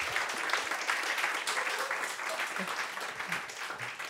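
Steady audience applause, many hands clapping in a dense, continuous wash that holds at a fairly even loudness throughout, with a few faint voices murmuring underneath.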